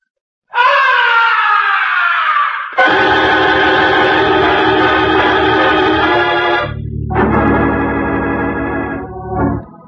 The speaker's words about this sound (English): From way up in the heights of the stage, the opera house was pierced with a blood-curdling scream. That was no ordinary scream. It was the scream of death.